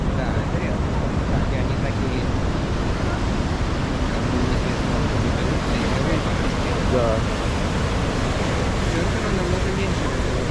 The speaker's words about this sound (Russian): Да, волны тут хорошие. Да, да. И даже немножко брызги, или это дождь пошел? Нет, нет, тут сейчас летит. Смотри, что творится. Я такого даже вот не припомню. Это редко, чтобы вот так.